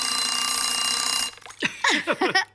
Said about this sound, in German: Wie gut, dass wir auch einen Wecker haben.